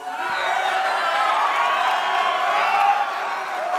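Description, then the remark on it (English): A small group of hecklers in the audience of a panel discussion shouts and jeers over one another in a steady, loud clamor, raised voices overlapping without pause for the full few seconds, with occasional whoops cutting through. “Almost immediately, a small group of hecklers began to express outrage.”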